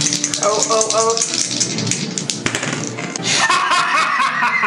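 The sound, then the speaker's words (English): Dice rattle and clatter across a table in a dense, continuous scatter of small clicks, fairly loud, with brief laughter from people. “Go dice, go.”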